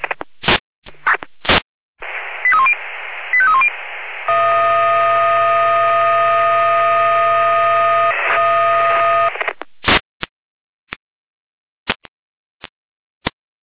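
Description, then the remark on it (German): Fire brigade radio alert sequence calling out Hamburg Wache 1 to a garden shed fire in Turnburg: a few sharp clicks and squelch bursts, two short rising-falling tone chirps, then a long steady multi-tone alarm chord for several seconds, ending in scattered clicks. “Lena mit Alarmierung.”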